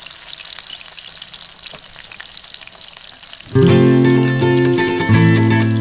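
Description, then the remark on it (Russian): Fish sizzles and crackles as it fries over a campfire built from a heap of brushwood, a steady hiss with small pops for a few seconds before loud, sustained music swells in and covers it. “Зажарю-ка я рыбку.”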